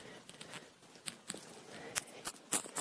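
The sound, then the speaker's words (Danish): Footsteps crunch through dry leaves, with sharp snapping of twigs in irregular bursts, fairly quiet, with no one talking. “Og hver gang jeg træder, så larmer jeg om på bladene og grinene, der knækker.”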